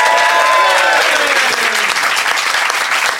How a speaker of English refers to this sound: So a big round of applause for our expert, Dr. Kevin Fernando.